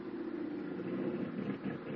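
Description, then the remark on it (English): A steady, droning aircraft engine hums continuously at moderate loudness as the plane descends to about 50 feet near San Jose, one of its engines sounding bad; its low rumble holds even throughout with a slightly rough, uneven texture and no voices. “One engine sounds bad.”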